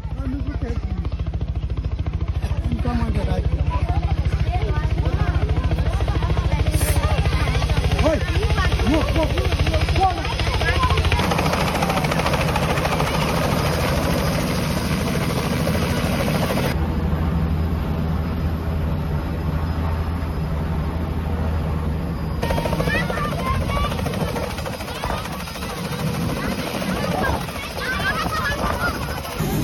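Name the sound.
helicopter arriving and landing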